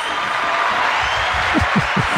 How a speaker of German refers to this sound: Also endlich applaudiert dir mal einer. Bitte. Ich nehme das immer alles nur als gegeben hin. Bitte, bitte hört nicht auf zu klatschen.